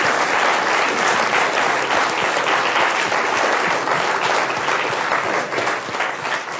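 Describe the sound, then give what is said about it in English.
Sustained audience applause for Joel Stein at the close of an Inforum and Commonwealth Club meeting, a dense, steady wash of many hands clapping at an even loudness for several seconds, with no voices standing out above it. “Let's give Joel Stein a big round of applause.”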